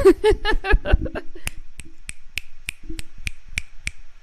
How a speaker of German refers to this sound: Man schnippst doch statt zu klatschen zur Unterstützung.